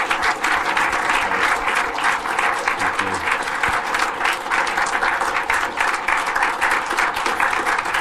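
A large audience breaks into loud, sustained applause, dense overlapping claps holding steady for several seconds with no pause, close and enveloping, no voices standing out.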